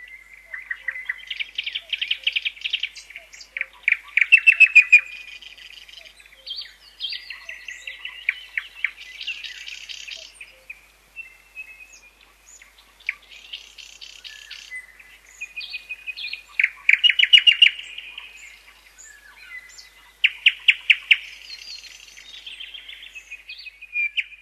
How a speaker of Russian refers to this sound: Поют-то птицы в основном весной, а потом они уже будут меньше петь.